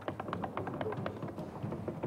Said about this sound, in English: Here's another one for you. Whatever you're sitting on right now, give it a little tap.